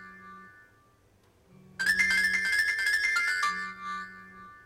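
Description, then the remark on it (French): A telephone ringtone sounds once for about two seconds as an outgoing call is placed. It is a bright electronic jingle with tonal notes, rising out of a quiet background of faint steady tones. No one speaks. “Il paye le téléphone bien comme il faut. Il a la bonne sonnerie.”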